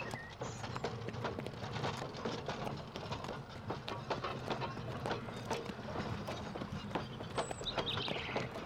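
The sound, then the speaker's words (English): Steady clip-clop of a horse's hooves plodding at a slow, even pace as it pulls a train that slowly starts to move, with a farmer walking alongside, mixed with creaking and rattling of the heavy wheeled load rolling behind, continuous. “Dolly pulls and pulls. Very slowly, the train starts to move. Farmer Dray walks along with Dolly.”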